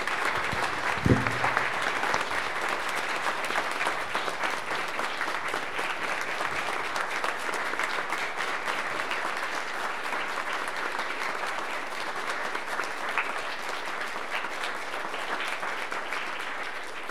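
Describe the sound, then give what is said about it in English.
Sustained applause from a large audience, a dense steady wash of clapping that holds at an even, fairly loud level for the whole stretch, with no voices standing out. “So I think probably a great big round of applause would be.”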